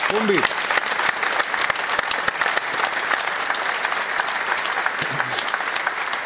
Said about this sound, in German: unser Reporter, ist jetzt an der Säbener Straße, steht da in Sonnenschein und kriegt von uns natürlich einen Applaus rübergeschickt.